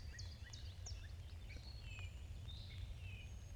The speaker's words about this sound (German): Wenn ich hier höre, vielleicht könnt ihr das mithören, wie die Vögel hier zwitschern.